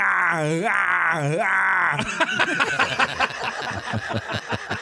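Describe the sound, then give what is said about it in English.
A man's voice imitates Arnold Schwarzenegger's action-movie pain yell: two loud, strained cries that swoop up and down in pitch, followed by rapid, choppy voices talking over each other. “One is his pain yell, and every movie he has to do it.”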